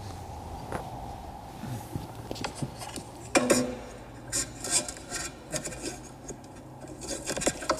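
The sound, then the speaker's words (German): Irregular metallic clunks and scraping rubs from the transmission-side inner joint of a driveshaft on a front-wheel-drive car with a longitudinally mounted drivetrain, sharp knocks and gritty rasps over a steady low hum, with no one speaking. “Meine Vermutung, Antriebswellen, Innengelenk, getriebeseitig.”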